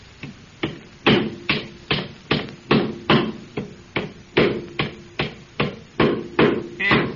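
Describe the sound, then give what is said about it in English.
A hammer pounds nails into a wooden board while a small doghouse is being built, with a quick, steady rhythm of sharp blows, roughly two or three strikes per second, each one ringing briefly against the wood. “get your skinny leg in that board and hold it while they're driving them nails”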